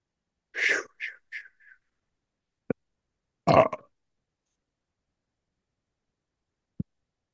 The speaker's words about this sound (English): And when a shaman belches, it's not rude, it's just energy release.